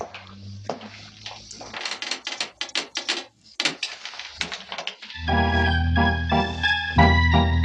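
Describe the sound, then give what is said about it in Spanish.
A door in a castle being closed: a run of creaking, clattering mechanical clicks and knocks, with a heavy latch-like thud, then sustained music swells in and continues. “La gallarda figura de Calimán desaparece al ser cerrada la puerta.”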